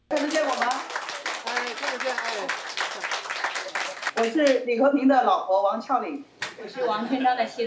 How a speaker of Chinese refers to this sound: 华盛顿时间上午11点多，当两位709太太出现在大屏幕上时，现场爆发出热烈掌声。